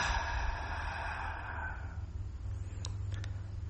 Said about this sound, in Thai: Now take a deep breath. หายใจเข้าลึกๆ deeper, deeper. Hold it. ค้างไว้ก่อนนะค้าง Release it out.